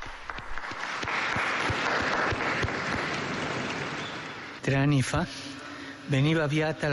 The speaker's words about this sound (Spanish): Un aplauso al nuevo Beato.